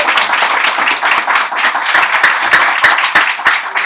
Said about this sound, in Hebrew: תנו להם כפיים לחסידי חב"ד האלה.